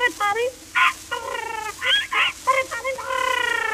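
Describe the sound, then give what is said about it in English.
A parrot squawks and chatters in a quick series of short, shrill bursts, ending in a longer, wavering call, fairly loud with no other sounds around it. “And a Poll Parrot for the little boy who lives in the garret.”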